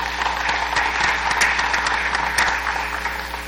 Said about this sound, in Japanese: もし特にご質問がなければ、また拍手によって承認していただきたいと思います。